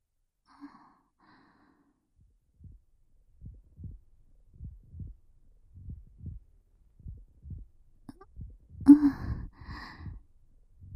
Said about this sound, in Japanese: 鼓動？